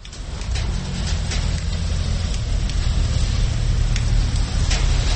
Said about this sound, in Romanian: Am mers la Bălți la sfârșitul săptămânii trecute, când în toată țara ploua cu găleata. Capitala din nord nu a fost o excepție, așa că imediat ce am oprit în oraș a trebuit să-mi caut un adăpost.